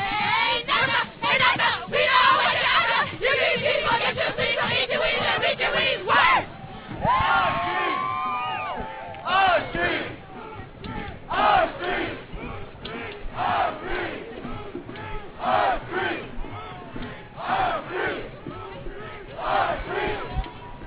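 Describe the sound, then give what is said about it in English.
The Radical Cheerleaders, an international group of feminist activists, shout rhythmic, cheerleader-style chants at a protest march in loud, punchy bursts, the group yelling in unison with occasional higher cries rising above the steady, energetic chanting. “The march was punctuated with performances by the Radical Cheerleaders”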